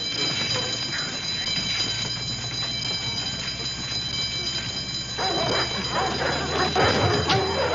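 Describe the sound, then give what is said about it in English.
An alarm bell, sounded because a prisoner is missing, rings loudly and without a break the whole time, its steady metallic clang sitting over a busy wash of rumbling background noise. “A prisoner is missing! Sound the alarm!”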